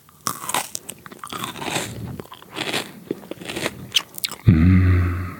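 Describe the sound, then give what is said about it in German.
Crisp crunching as someone bites into and chews a raw bell pepper, with irregular wet crackles for several seconds, then a brief low voiced hum at the end. “Paprika.”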